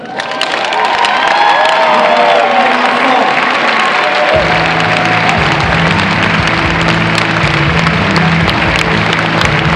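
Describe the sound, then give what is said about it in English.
Loud, sustained crowd applause for a Tier 3 contest winner from Singapore fills the whole clip, dense and steady, with cheering and whoops rising over it and a low rumbling swell joining partway through. “And this time, I want to invite everyone to offer a big round of applause for our Tier 3 contest winner from Singapore.”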